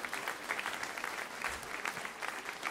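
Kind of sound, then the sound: crowd, audience applauding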